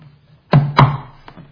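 Two heavy, close knocks land in quick succession, followed a moment later by a much fainter third tap, all over a steady low hum.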